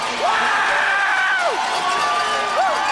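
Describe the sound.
A sled racer screams and whoops in rising and falling bursts at the finish as he is mobbed by the competitors he just beat, a crowd of other voices shouting and cheering around him, loud and continuous throughout.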